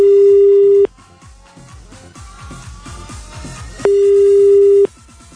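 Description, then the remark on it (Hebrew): A telephone ringback tone over the line while calling another public payphone at a yeshiva, in Ponevezh: two loud, steady one-second beeps about three seconds apart, with quieter, rhythmic background sound continuing between them. “בוא נעבור לטלפון ציבורי נוסף.”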